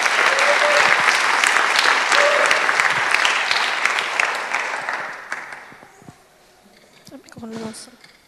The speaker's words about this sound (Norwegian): Det synes jeg også vi skal gi en applaus for.